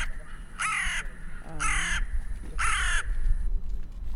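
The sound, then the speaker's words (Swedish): A crow, a red-listed species, caws three times in a steady rhythm, each harsh, raspy call lasting under half a second and separated by short pauses, loud over faint background rumble. “fick bland annat lyssna på ljudet från en rödlistad art, kråkan.”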